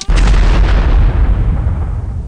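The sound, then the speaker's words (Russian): Computer video game gunfire as a player presses fire: a loud, sharp burst of shots, followed by a deep booming rumble that slowly fades over about two seconds. No voices. “Залипаю за компом, нажимаю выстрел.”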